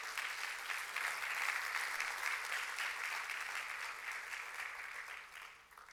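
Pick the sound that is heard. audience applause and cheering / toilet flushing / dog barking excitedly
audience applause and cheering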